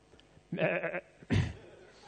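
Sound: sheep bleating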